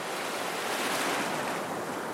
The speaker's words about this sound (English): Those sounds don't take me where I want to be, but distant pounding surf does.